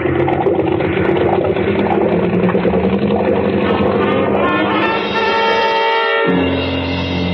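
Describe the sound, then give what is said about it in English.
Two big boat engines rumble steadily, a dense mechanical drone with layered harmonic hum, briefly dipping in the low end near the end before resuming at full strength. “And two red-hot manifolds absorbing all the heat of the two big engines.”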